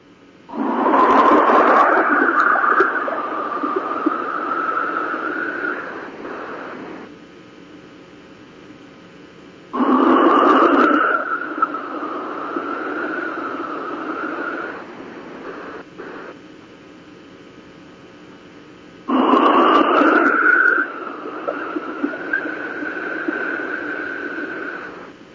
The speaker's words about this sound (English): And I'm going to call to Madame Feng Popo, and you're going to hear my wind whistle.